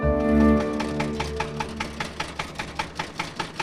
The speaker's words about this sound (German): Mit dem Trecker.